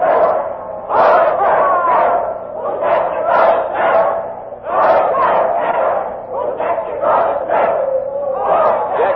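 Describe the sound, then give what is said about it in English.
A loud crowd chants the rhyming doggerel "Poor Jack Ketch, whose neck you're going to stretch" in unison at the hangman, many voices rising and falling in a steady rhythmic pulse that repeats over and over without a break. “And now the crowd is chanting a doggerel.”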